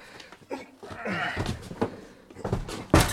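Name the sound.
door banging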